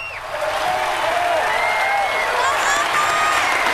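Sustained audience applause, joined by the president, a dense steady wash of clapping with crowd cheering and whoops mixed in, loud and even throughout without any speech.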